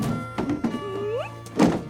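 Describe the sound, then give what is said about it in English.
A ranger drags a heavy plastic cool box down the front steps of a log cabin-style house and loads it into a Jeep: a few hollow thunks as it is set down and shoved, a brief rising squeak of scraping, then a final louder thud over a low steady hum. “She drags a cool box down the front steps and loads it into her Jeep.”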